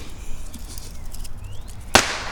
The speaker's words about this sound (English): Should we go back inside? Or should we continue to light bottle rockets?